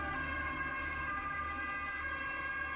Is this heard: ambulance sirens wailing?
yes